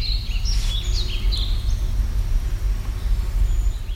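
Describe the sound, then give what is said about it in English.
A dark-eyed junco's bright, clear trill sounds early on at Brown Ridge on Saturna, then fades, leaving a steady low rumble of wind or background noise with no voices. “Nice clear trill. I'd guess that's junco.”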